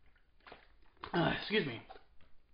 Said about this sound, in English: Excuse me, the hiccups are kicking in.